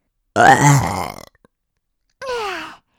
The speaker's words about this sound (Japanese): あたしのげっぷを聞いて喜んでるみたい。